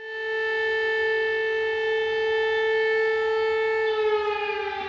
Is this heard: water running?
no